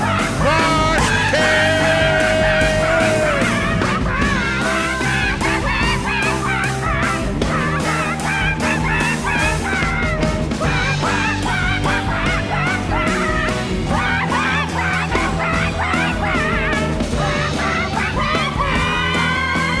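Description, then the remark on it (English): A loud, dense chorus of squawking parrots, many harsh calls overlapping continuously, with no let-up and no talking. “Oh my gosh, it's the swearing parrots!”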